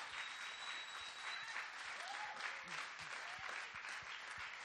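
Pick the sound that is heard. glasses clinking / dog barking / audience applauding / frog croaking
audience applauding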